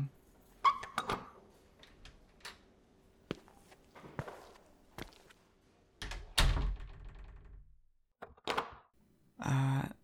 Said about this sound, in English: Can you come in? I'll unlock the door for you.